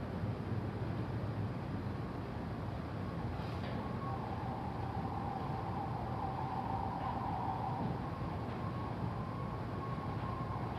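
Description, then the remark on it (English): An emergency siren wails faintly for several seconds, its tone gently rising and falling beneath a steady bed of low rumbling background noise. No one speaks. “The breath is a way of collecting the attention, but you can still notice and include the sounds, the sirens, sounds in the room.”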